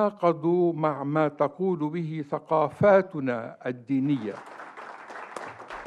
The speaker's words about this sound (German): Die Rede des freundlichen Libanesen wurde mehrmals von Beifall unterbrochen.